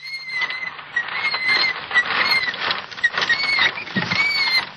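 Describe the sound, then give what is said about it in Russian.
High, thin, plaintive squeaks of a small child's unoiled tricycle, heard from afar in Snopovo, repeat over a steady patter of background noise, some sliding briefly upward in pitch. No one speaks. “Далеко слышен жалобный скрип трехколесного велосипедика”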